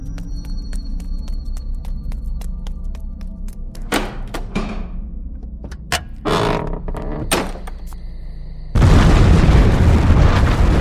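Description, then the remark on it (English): Several heavy booming blasts and thuds ring out in sequence over a low rumbling bed, then a dense, loud roaring noise takes over like a burst of crackling fire: an abbey blown up by a lit fuse and ether, followed by the resulting fire. “believe that the Abbey and its demonic legion was destroyed by the explosion and the resulting fire.”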